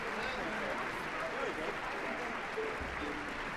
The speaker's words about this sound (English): The door has opened and Orpheus is coming on stage. To the applause of the audience. Filing out, taking their places.